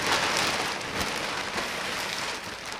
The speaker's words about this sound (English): Pulling off a plastic cover reveals the observatory's 12-inch telescope